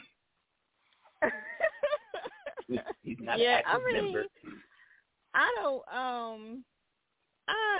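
A dog lets out a loud run of whiny, grunting yelps and drawn-out howl-like cries, coming in several separate bursts with short pauses between.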